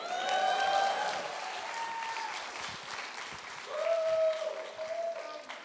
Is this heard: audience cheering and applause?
yes